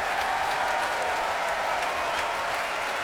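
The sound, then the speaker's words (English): Sustained, dense applause from a concert audience for principal horn William Caballero and the orchestra's brass players as they get to their feet, an orchestra under music director Manfred Honeck; a steady wash of many hands clapping at once with no pauses, fairly loud and even throughout. “Applause there for William Caballero, principal horn.”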